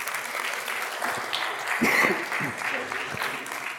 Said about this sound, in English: Don't applaud. It's not trickery. It's not a magic trick. But let's do applaud for these kiddos right here for coming up.